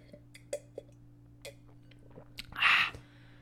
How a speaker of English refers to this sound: Can I take a sip? It's always awkward. Can I take a sip? Sure. I'm going to sip.